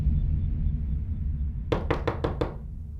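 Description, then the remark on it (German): Five quick, evenly spaced knocks by three armed men on the wooden door of an alpine hut on the Kümpfelalm at night, 25–26 June 2006, crisp, ringing out over a low, steady rumble of background noise. “In der Nacht vom 25. auf den 26. Juni 2006 klopft es bei Doris auf der Almhütte an der Tür.”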